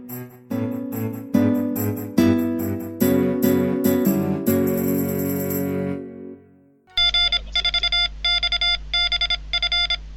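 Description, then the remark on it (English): A stretch of music gives way to an emergency alarm tone marking a Hacker Public Radio emergency show, played because HPR is running low on scheduled shows: loud, high, buzzy beeps pulsing in a steady rapid rhythm over a low steady drone, with no voices. “Uh-oh, you're hearing that sound because this is an emergency show.”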